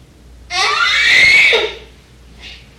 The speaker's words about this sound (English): What's that scream about?